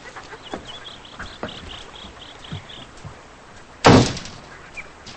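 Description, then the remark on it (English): In the morning, a front door shuts with a single loud thud near the end as a woman steps inside. Soft footstep-like knocks come before it, while faint clucking and bird chatter continue in the background. “Zoe smiles, then purses her lips as her mother steps inside and shuts the door.”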